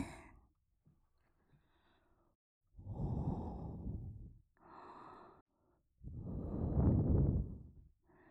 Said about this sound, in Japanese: このまま眠りにつくまで、優しくふうふうしてあげる。はい、それじゃあお耳をこっちに向けて。